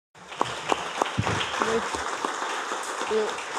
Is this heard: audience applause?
yes